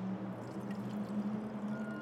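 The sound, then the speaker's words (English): Wine pours steadily into a glass, a continuous gurgling splash lasting a couple of seconds, with a low tone creeping upward as the glass fills. No voices. “pours out wine.”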